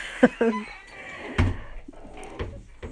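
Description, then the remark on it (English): Squeaky door hinges whine in a couple of short, high, bleat-like creaks, followed by a dull thud and a few fainter squeaks and knocks, with no talking. “Sorry about my squeaky doors.”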